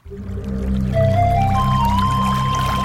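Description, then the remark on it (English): Water pours steadily into a container, its gurgling tone rising in pitch as the vessel fills. A continuous, close, fairly loud pour with no voices. “Water.”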